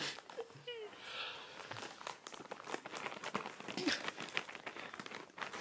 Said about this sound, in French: So we're just going to cut open the package. Here it is. We're just going to cut it open.